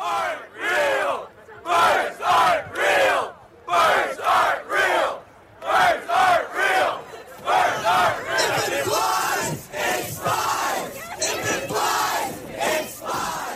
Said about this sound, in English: This is from what's called a bird truther protest. Oh, no. It comes from a satirical conspiracy theory that has a pretty provocative claim that birds aren't real.